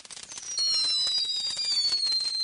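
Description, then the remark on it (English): Fireworks, including a big Quake and a TNT Houdini, going off in a dense, rapid crackle of pops, with a shrill high whistle running over them, the barrage growing louder after a brief start and holding steady. “Okay, the big Quake's been lighted. One of them. So is TNT. TNT Houdini.”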